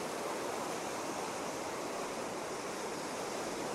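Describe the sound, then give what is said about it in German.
Steady surf washes onto a Baltic Sea beach on a cool day with a gentle wind, a continuous broad hiss of breaking waves with no distinct individual crashes, even in loudness, with no voices. “Ich stehe hier am Strand. Ich schaue auf die Wellen.”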